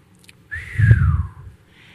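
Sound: person whistling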